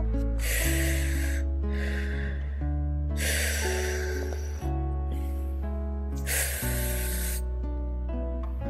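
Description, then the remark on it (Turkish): Three long, deep breaths drawn in one after another, as the story character Lulu Mercan takes three big breaths, each a loud airy rush spaced a couple of seconds apart, over a steady soft musical backing with no talking. “Lulu Mercan üç kocaman nefes aldı.”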